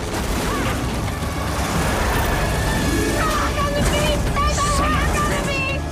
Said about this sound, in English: The right side of the landing gear is bent out of shape by a boulder. The plane swerves around a few times.